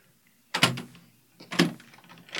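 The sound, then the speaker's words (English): A door swings shut with a solid thud, then a second sharp clunk follows as it's locked, with a faint knock trailing at the end. No one speaks. “You're locking the door?”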